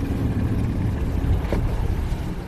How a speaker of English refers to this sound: It's a narrow metal boat with no seats, and the waves are building up.